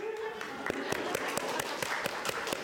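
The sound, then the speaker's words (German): A brief, modest round of applause from a small group, given in advance for the three ladies of the Konsum shop, with scattered sharp claps standing out over a continuous murmur of crowd noise and voices. “Kleinen Applaus vorweg.”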